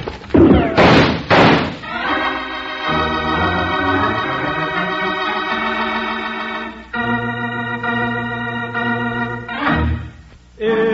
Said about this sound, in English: Yank open the door, Jingles, and duck.